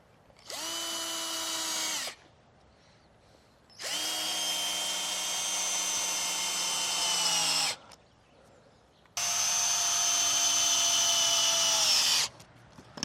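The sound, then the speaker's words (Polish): A power drill drives a self-drilling screw from the inside while fitting a small chimney piece, in three bursts, one short and two longer, its high steady whine sagging slightly in pitch as each run ends, with quiet pauses between and no talking. “To miało być samowiercące i co?”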